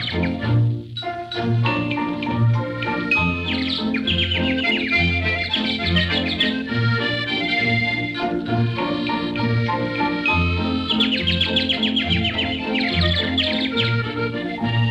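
Birds chirp and trill in quick repeated bursts, loud and close, layered over a steady, rhythmic low-pitched background.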